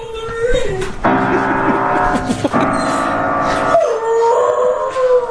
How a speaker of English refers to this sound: Imagine being the neighbor. Shut up! I'm trying to sleep for the love of God! Shut up! Shut that dog up! I'm calling the police!